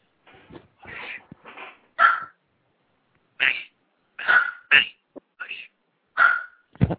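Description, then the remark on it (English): A small dog barks in a string of sharp, high-pitched yips mixed with whiny whimpers, loud, coming in irregular bursts with short pauses between. “I just got a little dog down here that wants to start barking.”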